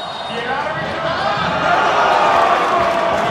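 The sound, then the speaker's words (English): A crowd of well over 1,000 people in a food court, watching Brazil play Mexico in a soccer match, fills the space with dense, reverberant, overlapping chatter, a constant loud hubbub of many voices that swells slightly in the second half. “Like right now, I think we probably have well over 1,000 people in here.”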